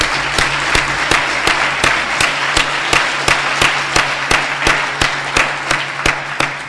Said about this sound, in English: Let's give Fabi another round of applause for the great job he did this year.